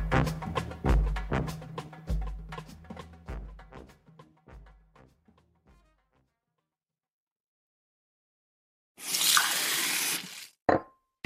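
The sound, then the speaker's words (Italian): A tap runs in a short, steady gush for under two seconds and then shuts off, after a fading series of drip-like plinks and a brief pause. No one speaks. “noi beviamo ogni giorno l'acqua del rubinetto, anche a scuola, perché è buona, sicura e controllata da Gruppo K.”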